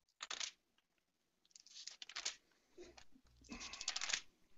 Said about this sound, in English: I hear the pages turn. That's a good sound.